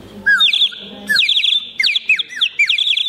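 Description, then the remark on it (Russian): A clay 'wet nightingale' whistle, a small pot-shaped peasant children's toy filled with water, warbles like a nightingale, loud, in several bursts of bubbling, trilling chirps with brief pauses between them and no voices. “Любимой игрушкой крестьянских ребятишек была и свистулька «Мокрый соловей». Обычный горшочек свистит просто, а с водой...”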